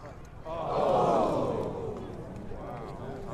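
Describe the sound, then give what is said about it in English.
A golf gallery crowd at the par-3 ninth hole reacts with a loud collective groan as Kenny Perry's shot comes up short and goes into the bunker; the groan swells quickly, peaks, then slowly fades, leaving a few individual voices calling out over the lingering murmur. “Love the crowd sounds.”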